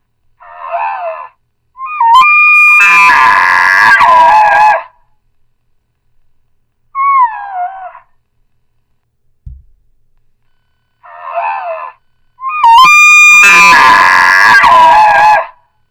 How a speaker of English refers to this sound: I'm going to actually show you one that's a recorded bull elk right now.